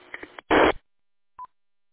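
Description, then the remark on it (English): A brief burst of band-limited radio hiss ends in a loud, harsh digital data burst, followed after a short silence by a single quick electronic chirp: a digital packet chirp at the end of a radio transmission on a new radio. “You got a little packet chirp at the end of your transmission there.”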